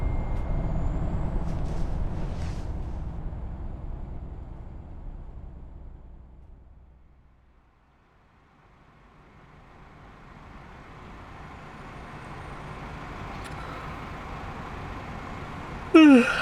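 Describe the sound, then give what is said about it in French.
A large bus carrying passengers at night toward the Polish–Ukrainian border rumbles loudly, with sharp hisses of air brakes early on. Its engine noise fades almost to silence, then slowly builds again as a vehicle approaches. “En tout cas, le chauffeur de bus, c'est un bon.”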